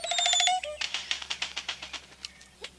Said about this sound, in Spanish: Las oropéndolas cantan un estribillo alarmante.